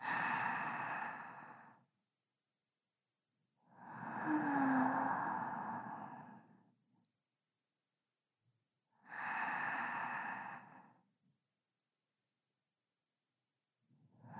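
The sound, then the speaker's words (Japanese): Slow, deep breaths of a person lying relaxed on a futon, long airy exhales arriving about every five seconds with quiet pauses between them, soft and unhurried, with no talking. “体の力は今も抜けて、布団にすべてを任せて深い呼吸が続きます。”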